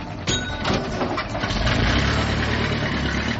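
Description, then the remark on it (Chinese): A bus's heavy engine rumbles steadily at low pitch as it arrives, with a brief rise in hiss and mechanical noise early on before settling into a continuous idle drone, no voices present. “公车来了，你要不要跟我一起去看呢？”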